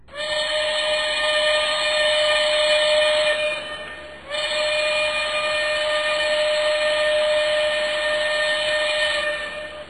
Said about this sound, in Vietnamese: Cách một lát, có tiếng súp lê thổi ầm ép.